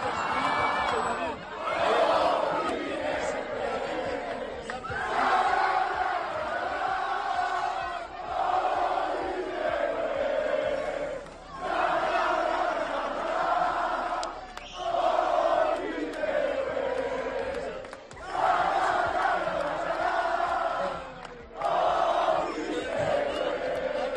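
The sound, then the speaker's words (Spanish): A football crowd at the Pinilla ground celebrates CD Teruel's promotion to Spain's third tier despite the rain, chanting loudly and in unison in repeated sung phrases separated by brief pauses, a dense wall of voices sustained for the whole stretch. “Así se celebraba a pesar de la lluvia en el campo Pinilla.”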